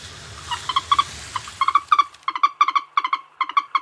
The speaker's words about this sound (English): As I just slightly revealed there, the mystery bird is the moorhen, and I'll read the correct answers and the names of the correct answers after we've listened to this.